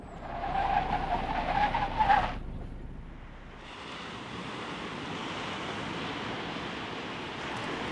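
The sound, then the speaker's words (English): A car brakes by the sea with a brief squealing skid for about two seconds, then falls quiet as steady, rushing waves and wind take over in the background. “They all got out of the car and walked to the beach.”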